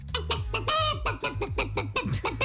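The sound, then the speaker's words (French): A person imitates a hen, making a quick, steady series of throaty clucks, fairly loud, with one drawn-out squawk partway through and no other talking. “Moi je sais faire la poule, mais je vais vous faire un micro fermé.”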